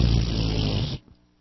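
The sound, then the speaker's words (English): On the radio, the radio host imitates a fart with his mouth: one loud, buzzy, sputtering raspberry lasting just under a second before it cuts off abruptly, leaving near silence. “…'s making fart noises on the radio again.”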